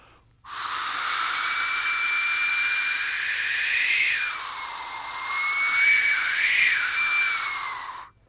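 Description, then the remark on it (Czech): A storyteller imitates the wind with the mouth for children, a long, steady breathy whoosh, its airy hiss rising and falling in pitch with a faint whistling tone threaded through it, lasting about eight seconds with no speech. “Vítr, děti, udělám na pusu.”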